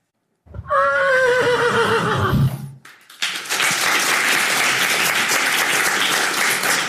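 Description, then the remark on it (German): A horse whinnies loudly, then after a brief pause a crowd breaks into dense, steady applause, many hands clapping at once and sustaining for several seconds without any talking. “Also richtig klatschen, die geklatscht haben.”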